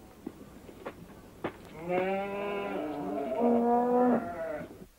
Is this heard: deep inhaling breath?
no